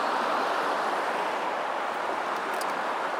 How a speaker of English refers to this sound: And I'm just standing on the bridge. It's quite nice. It was built a few years ago, a wooden bridge. And we get a lovely view of the water flooding over those stones and heading down ultimately towards the estuary and the sea.